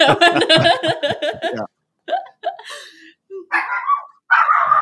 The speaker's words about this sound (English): There's the dog. The dog obviously wants to get going somewhere.